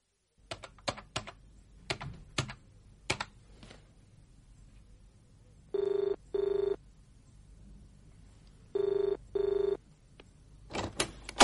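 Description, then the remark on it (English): A telephone rings twice in a classic double-ring pattern, loud, between bursts of brisk keyboard typing clattering at the start and end. “Oh, sorry, I didn't know you were on the phone.”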